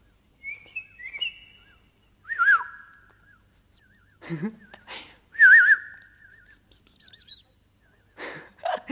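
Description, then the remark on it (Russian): A golden bird with a crest, blue back and belly and a scarlet tail whistles and chirps in short bursts, with sliding tonal whistles, wavering trills and quick high-pitched tweets separated by brief pauses, clear with no talking. “Никогда я не встречал в наших местах таких птиц.”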